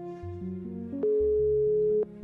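A single steady telephone ringing tone of an outgoing call sounds for about a second, loud and even-pitched, over soft background music with shifting low notes.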